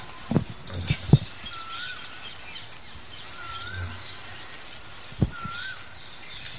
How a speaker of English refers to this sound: Quail, cuckoo is also singing. Is that a cuckoo? Yes. That's cuckoo.